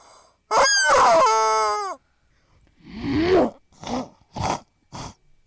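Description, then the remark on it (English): A person imitates a chicken with a loud, drawn-out, strained squawk, then a pause followed by a rough throaty cackle and three short, punchy clucks. No one speaks. “This is how chicken says it.”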